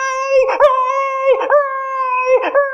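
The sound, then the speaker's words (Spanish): A puppy named Pirata howls in a steady, high-pitched wail, loud, its voice wavering and catching roughly every second, while piranhas bite its injured leg and it tries to get out of a river. No one speaks. “Aullaba pirata y trataba de salir del río.”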